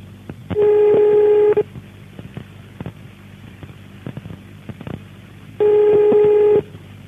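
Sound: telephone beeping tones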